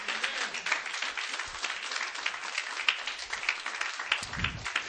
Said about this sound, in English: Come on, clap your hands unto God tonight.